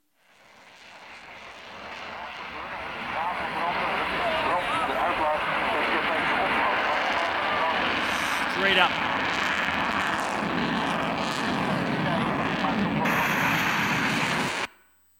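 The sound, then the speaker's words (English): An F-35 fighter jet, 70,000 pounds of plane, fuel and ammunition, roars loudly and steadily in flight for about fifteen seconds, a dense rumbling engine noise that swells in at the start and cuts off abruptly at the end. “But that's nothing compared to being able to see this plane in action.”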